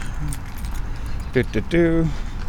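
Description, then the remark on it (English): A short jingle of keys, followed by a brief electronic beep from a car as someone tries to lock it in the parking lot of Herrenhaven, over a low outdoor rumble. “Oh, should I try to lock my car?”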